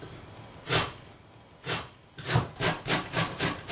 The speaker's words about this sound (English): Now, to go with pakora, I'm going to prepare some cucumber raita. For the cucumber raita, you need a medium-sized cucumber. And I'm going to grate it.